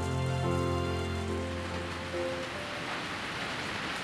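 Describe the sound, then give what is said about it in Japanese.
Steady rain hisses throughout, a dense, even patter, falling during the rainy season. A sustained musical chord rings over it at first, then fades away and leaves the rain on its own. “やっぱり梅雨はいいな。ずっと梅雨が続けばいいのに。”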